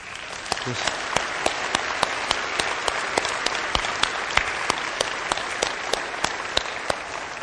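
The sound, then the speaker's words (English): Steady applause from a church audience, honoring someone for good work, fills the whole stretch, a dense wash of many hands clapping with sharp individual claps popping out in an irregular rhythm, fairly loud and unbroken, with no voices standing out. “just applause for someone who's done so at such good work”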